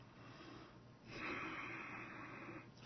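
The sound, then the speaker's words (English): A single slow, drawn-out breath taken together with another person, a soft airy hiss that swells and holds for well over a second before fading. “Slow, long breath together.”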